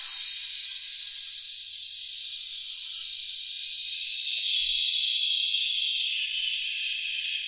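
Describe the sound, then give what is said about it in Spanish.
A steady, continuous shushing hiss made on an exhale with the tongue tip placed between the palate and the incisors, bright and airy, held at an even loudness for about seven seconds with no talking. “Al exhalar, coloque la punta de la lengua en la parte superior entre el paladar y los incisivos y produzca el sonido de acallar a alguien, de hacer silencio.”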